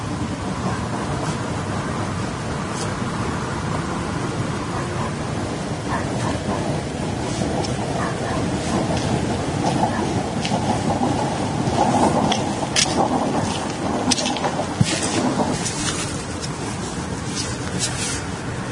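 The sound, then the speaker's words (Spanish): A train rolls past on the rails, a steady, loud rumble with scattered metallic clicks and clatter riding on top, sustained throughout with no voices. “El sonido del tren debía ser tremendo cuando se escuchaba desde dentro, desde fuera.”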